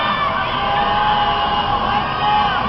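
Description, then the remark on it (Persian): A large crowd of protesters shouts together at night in a sustained, dense roar, loud and steady throughout, with no single voice standing out, chanting the slogans 'Allahu Akbar' and 'Death to the dictator' in protest at the presidential election results. “این شبها شبهای اعتراض است و بخش دیگری از معترضان نیز همراه با شعار الله اکبر فریاد مرگ بر دیکتاتور سر می دهند.”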